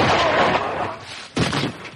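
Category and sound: sound effect, gunshot sound effect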